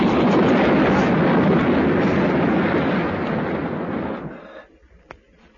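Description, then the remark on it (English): Phenom House, a building in Piccadilly, collapses into the street with a heavy, sustained roar of crashing rubble that rumbles for about four seconds, then fades into scattered debris and a single sharp knock near the end. “Phenom House crashed into the street behind us.”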